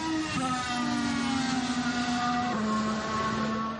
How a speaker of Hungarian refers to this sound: Na, itt van Bottas, akkor mutatja nekünk egy mért kört az esőgumin. Teljes esős íveket autózik, kerülje a felgumizott száraz ívet. Az ilyenkor jobban csúszik.